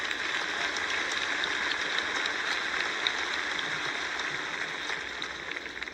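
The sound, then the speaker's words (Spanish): Steady audience applause for the Minister of Economy, Daniel Mas. It is a dense wash of many hands clapping at an even level throughout, with no voices standing out above it. “Nuestro ministro de Economía, que está ahí, Daniel Mas, un aplauso también.”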